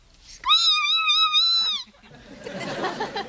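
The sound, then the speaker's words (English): A huge bird lets out one loud, high-pitched screech that wavers slightly and holds for over a second, followed by a rough, hissy rustling noise. “The scream of a huge, great big bird.”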